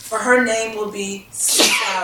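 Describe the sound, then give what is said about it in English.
A man speaks a short phrase, then a single sharp sneeze bursts out near the end, loud and breathy with a hissing edge. “Bless you.”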